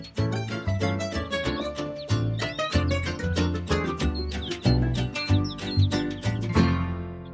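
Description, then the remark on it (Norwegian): Bright, cuckoo-clock-like chirping calls repeat over a busy, steady instrumental music bed, close and fairly loud throughout, with no voices. “Jeg hørte som en gjøkur igjen nå.”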